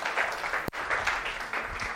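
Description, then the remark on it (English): A church audience applauds the keyboard player of the worship team, many hands clapping together into a dense, continuous wash of sound that holds for the full two seconds, broken only by a brief click partway through. “Let's hear it for Mary.”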